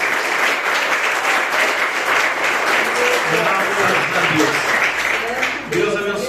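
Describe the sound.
An audience applauds loudly and steadily for the Lord Jesus Christ for about six seconds, a dense wash of many hands clapping, with voices calling out faintly underneath.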